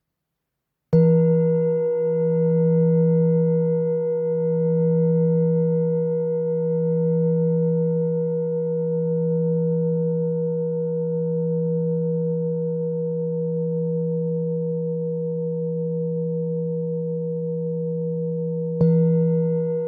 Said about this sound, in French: Un bol tibétain de 7 métaux gravés, 950 grammes. C'est un poids idéal qui offre à la fois stabilité et richesse vibratoire. On est ici sur une tonalité de mi. On commence par la frappe mayoche.